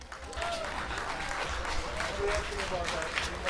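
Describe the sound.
An audience applauds steadily, a dense wash of many hands clapping at an even level throughout, with some voices mixed in underneath.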